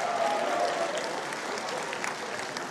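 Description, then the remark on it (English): A church audience claps steadily, a dense, continuous wash of many hands at even loudness, with a faint sustained tone briefly audible early on. “So wonderful you are clapping.”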